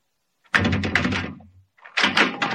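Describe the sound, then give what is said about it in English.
A door being opened: a heavy clunk and rattle of the latch and frame, a short pause, then another burst of knocking, clattering movement. No one speaks. “Now open that door and step back.”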